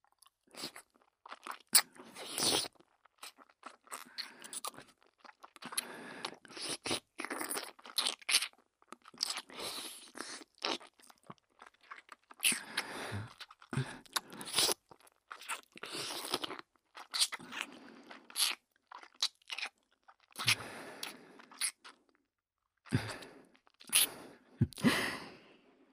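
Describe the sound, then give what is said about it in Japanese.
Wet mouth licking sounds on an ear: a steady, irregular stream of moist smacks, slurps and clicks, with brief pauses and a few louder bursts, and no talking. “君は耳も弱いんだな。”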